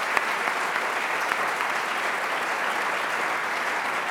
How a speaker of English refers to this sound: But please do give a round of applause to these members.